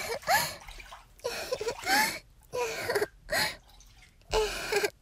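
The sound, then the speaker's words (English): Water splashing in a bath in about five loud bursts separated by brief pauses, as in a splash fight, mixed with breathy gasps and small vocal whimpers. “Splash fight.”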